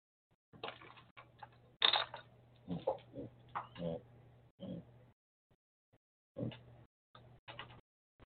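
A pen scratches and taps against a hard, bare desk with no paper as someone mimes writing, in short, irregular bursts, fairly quiet, with a faint low hum underneath and brief pauses between strokes.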